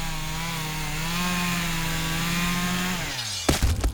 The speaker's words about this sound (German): Heutzutage könnte es natürlich auch irgendein Irrer mit der Kettensäge sein.